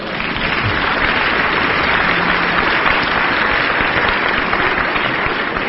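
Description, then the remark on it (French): A religious assembly claps steadily for a brother about to give his first teaching, a dense, even wash of many hands that stays loud and constant from start to finish without pausing. “Applaudissez-le à travers...”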